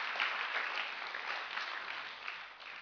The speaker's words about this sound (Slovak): Dajme potlesk Pánovi za to. Halelúja! Halelúja!